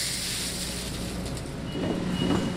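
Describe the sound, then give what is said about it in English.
Green coffee beans, dumped by workers from torn-open burlap bags, pour into a silo at the Swiss Water decaffeination plant south of Vancouver in a steady, gritty rushing cascade over a constant industrial drone, the rattle swelling louder toward the end. No one speaks. “Workers are tearing open burlap bags of green coffee beans and dumping them into a silo.”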